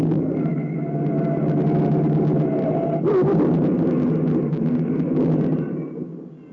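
A heavy car crash: a steady engine rumble with a sustained tonal whine, broken midway by a sudden loud burst of impact noise, then the rumble continuing and fading at the end.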